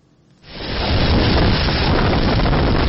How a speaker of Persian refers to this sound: لحظه طوفان در نزدیکی مرز آلاباما در کامیره های نظارتی یک مکتب در جنوب میسیسیپی ثبت شده است. شب جمعه گذشته در دو ایالت جنوبی طوفان سخت به عمل آمد.